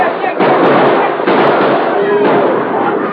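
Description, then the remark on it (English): Sharp gunshots fired by a posse over the heads of a stampeding cattle herd crack out over a dense, continuous roar, with a few sudden bursts punctuating the thick, muffled rumble of hooves. “At a shout from the masked man, shots rang out over the heads of the bewildered steers.”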